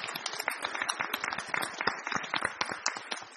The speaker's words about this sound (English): So on behalf of our team, I just want everybody to give them applause for that.